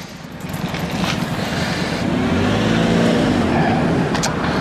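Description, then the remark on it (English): Road traffic in Takasa rumbles steadily as cars pass, one engine's hum rising and swelling loudly midway before holding at a strong, continuous roar. No voices. “Wonderful drivers in Takasa.”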